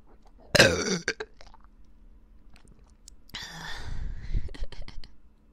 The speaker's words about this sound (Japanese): 中にゲップ入ってます。両耳からゲップ攻めされちゃうよ。みんな聞いてみてね。